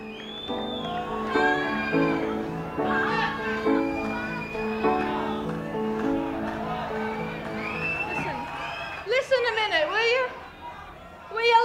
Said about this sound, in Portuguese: O público grita pedindo que deixem o cara falar